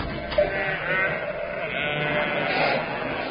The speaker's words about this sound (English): More sheep. Where? In that room. Did you hear them?